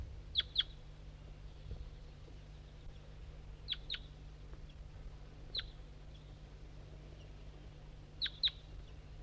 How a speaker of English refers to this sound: I'm a little higher on the hill and there's some wild birds around.